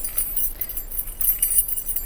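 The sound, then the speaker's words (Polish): Keys jangle and clink together in a steady, shaking rattle for about two seconds as someone opens a garage, bright, with no voices. “Szeleścimy sobie kluczkami.”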